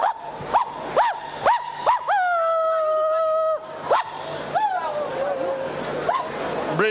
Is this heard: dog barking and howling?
yes